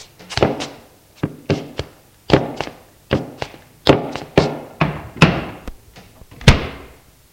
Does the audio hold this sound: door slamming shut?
yes